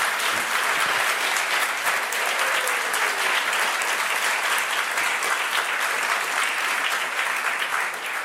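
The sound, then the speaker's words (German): Steady, dense audience applause with many hands clapping at once, a continuous bright crackle that holds at an even loudness for the whole stretch without talk; applause for two guests of an SRF 1 talk show, broadcast from the foyer of the Konzerttheater Bern on Palm Sunday morning. “Und ein Applaus meinen beiden Gästen”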